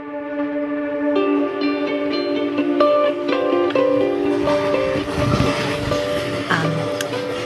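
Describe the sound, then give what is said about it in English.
Inside a moving Amtrak passenger train travelling from Penn Station to Albany, a steady rumble runs under sustained, whining tones that shift in pitch, with brief clacks and rattles near the end and no talking. “Now on the Amtrak from Penn Station to Albany, heading into some pretty hardcore unknown.”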